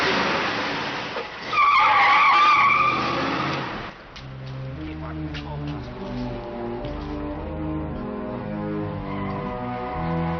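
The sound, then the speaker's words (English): A car roars past through the back lot of a movie studio, its tires screeching sharply for a couple of seconds, then the engine drones on steadily as it drives away, loud throughout. “He drives through the back lot of the movie studio.”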